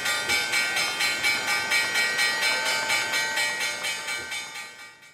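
A stock exchange opening bell clangs loudly and steadily, its metallic ringing pulsing about four times a second for several seconds before trailing off. No one speaks.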